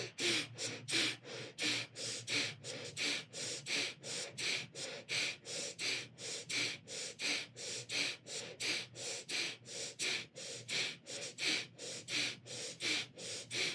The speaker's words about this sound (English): And the mantra Satnam, Satnam, Satnam, Satnam, Satnam, Satnam is running through your head, keeping your mind on track as you're breathing.